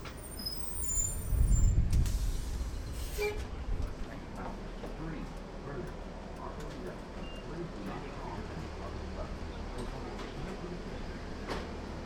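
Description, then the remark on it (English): Inside a moving bus: a low engine rumble swells early on, followed by a sharp hiss of air brakes and a steady road drone with faint, indistinct voices in the background. “bus ride somewhere.”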